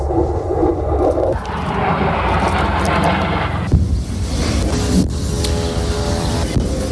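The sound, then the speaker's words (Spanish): A loud, continuous roar of Israeli military jets overhead fills the whole stretch, shifting in pitch as the aircraft pass, with a high engine whine rising near the end. No voices. “Hemos oído las bombas en el interior de la Franja de Gaza y a los aviones israelíes.”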